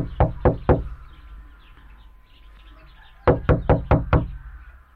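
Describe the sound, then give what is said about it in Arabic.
Visitors knock on the door of a house: three sharp knocks on a wooden door, a pause of a few seconds, then a second round of four or five firm knocks, with faint birdsong in the background. “لنطرق الباب.”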